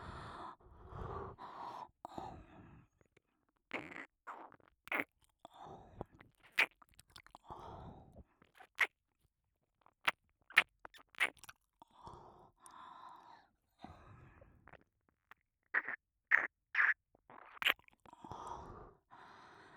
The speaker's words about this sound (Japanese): 耳への愛情を込めた接吻で興奮を高め、